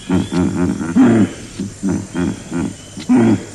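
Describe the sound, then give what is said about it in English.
Vervet monkey calls ring out in loud, rhythmic bursts of harsh, grunting barks, several clusters of short pulses broken by a couple of drawn-out squealing cries, with no voices present. “Wow, listen to those hyenas. No, that's the vervet monkey.”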